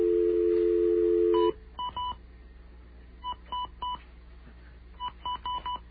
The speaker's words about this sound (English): Let's call up this number and see what they say. Get our little trusty dial tone there.